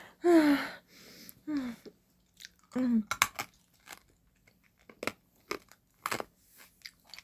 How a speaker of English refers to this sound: I'm sorry. Let me hurry up and chew the cough drop up. And for you that are grossed out by cough drops, I love cough drops. I think they're so addictive. The menthol flavor.